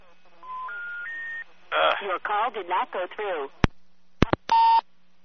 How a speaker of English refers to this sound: The phone's making this weird gay beep now every time I click the line over it. I don't know when it started that shit.